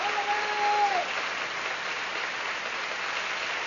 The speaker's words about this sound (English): Most of the audience here in the Opera House standing as they applaud this production.